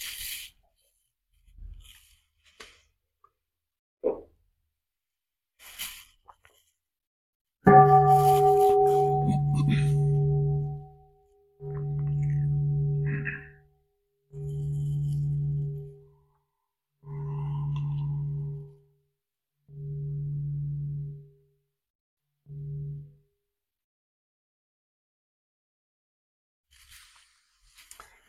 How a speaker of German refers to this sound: Vielleicht hören wir noch mal eine Glocke.